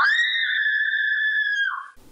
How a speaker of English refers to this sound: Gee, what kind of scream is that? That sounded fear. Absolutely right. Yeah, right, because it's the sort of the thing you hear in the movies, you know?